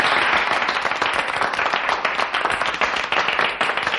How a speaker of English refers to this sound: Gentlemen, thank you for your generous applause.